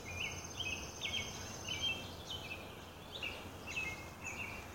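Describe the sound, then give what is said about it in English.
Spring morning birdsong: soft, high-pitched chirps and trills come in short repeated bursts about every second, over a steady low hiss, with no voices. “Are you listening to the birds this morning?”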